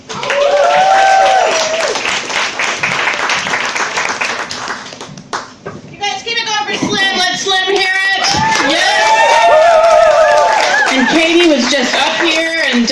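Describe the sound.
A crowd at a comedy show breaks into loud, sustained applause as a headlining comedian is introduced, with dense clapping continuing throughout alongside cheering and whooping voices rising over it.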